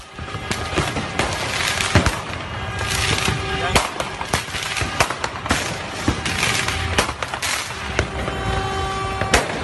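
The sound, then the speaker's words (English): Firecrackers and fireworks crackle and bang in rapid, irregular bursts outdoors on New Year's Eve, loud and dense, over a steady background murmur of a busy street crowd. “But yeah, this is a time where they can come out with fireworks and weapons and just go total monkey business, right?”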